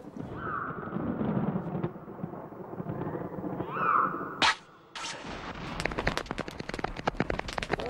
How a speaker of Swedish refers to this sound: Ovädret närmar sig snabbt.